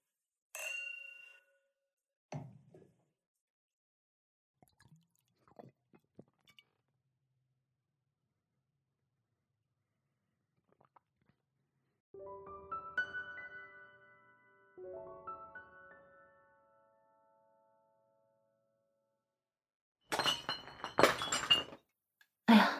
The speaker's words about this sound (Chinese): 就听你的，喝点酒助兴吧。来，为我们三人的愉快相处一起干杯吧。